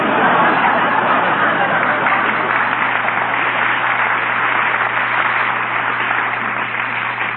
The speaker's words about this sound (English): Look, pal, the crowd's getting a little impatient here.